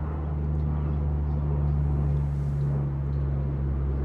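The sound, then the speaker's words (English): An airplane flying overhead near the Youngstown Warren Regional Airport in Ohio makes a steady, loud rumbling drone with deep humming engine tones, holding an even level for about four seconds with no one speaking. “There's a plane. I don't know if you guys can hear it. It's really loud. I'm gonna wait until it flies over.”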